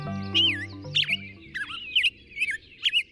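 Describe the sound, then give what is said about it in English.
A black-headed grosbeak sings a string of rich, rising-and-falling whistled phrases, about six quick bursts in steady succession, clear over a faint low hum that fades early. “Clinton Francis is a sensory ecologist who studies how noise pollution affects birds, like this black-headed grosbeak.”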